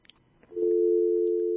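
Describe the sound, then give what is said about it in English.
A landline dial tone: a steady, low-pitched hum that comes in abruptly after a few faint clicks and holds at an even, loud level without a break. “I didn't know there were dial tones anymore. I guess she called from her home line.”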